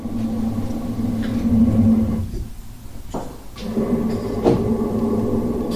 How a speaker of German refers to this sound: Die großen Blasebälge atmen schon.